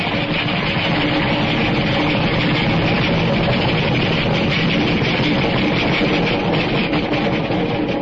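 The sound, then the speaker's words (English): A passing express train fills the whole stretch with a loud, steady roaring rumble, a deep mechanical drone layered with rattling clatter that never lets up, and no voices. “Wait till the train goes by and hang on to your teeth. It's an express.”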